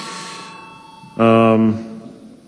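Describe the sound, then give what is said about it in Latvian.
A parliamentary voting bell, rung before deputies vote on a bill, sounds once, a loud, steady electronic tone lasting about half a second, then cut off. A fainter ringing tone fades out just before it. “Iebildumu nav, lūdzu zvanu.”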